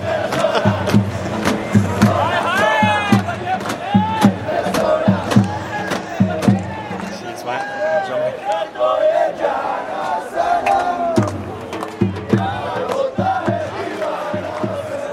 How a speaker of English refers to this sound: The applause, ladies and gentlemen, for Sean Marsh. He's just got off the mark after, a good 20 minutes on zero.